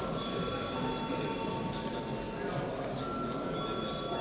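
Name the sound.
parliamentary voting bell ringing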